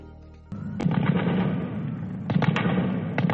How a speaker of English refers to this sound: Gunfire echoed through Kabul as gunmen dressed as medics stormed a hospital in the Afghan capital today and battled security forces for hours, killing more than 30 people and wounding dozens in an attack claimed by Islamic State.